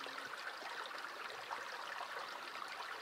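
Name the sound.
gently flowing stream water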